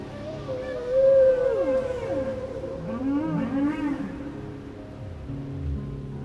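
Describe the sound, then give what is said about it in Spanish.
Underwater whale or dolphin calls: a series of moaning, sliding tones that rise and fall in pitch, with some higher warbling squeals overlapping, over a low steady rumble. No one speaks. “Las señales de un delfín o una ballena corren casi a 1.5 kilómetros por segundo.”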